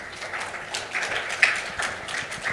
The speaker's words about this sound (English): Okay, thank you very much. Please give a round of applause to our speaker.